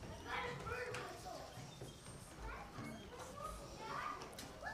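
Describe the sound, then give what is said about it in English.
A crowd of children chattering and calling out at once as they are dismissed to their class in the morning, a steady overlapping babble of young voices with scattered shouts and some shuffling movement underneath. “All right, the children can be dismissed to their class this morning.”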